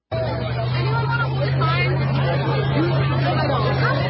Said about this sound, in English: Pretty massive crowd. And this is actually a different one. There's another. Oh, no, maybe this is the same one. But it's definitely the same school.